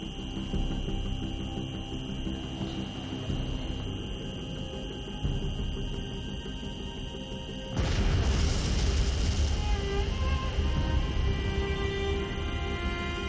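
A steady low hum runs for several seconds before a sudden, loud explosion outside Liverpool Street Station bursts in, followed by a deep, sustained rumbling roar that carries on to the end. No voices are heard.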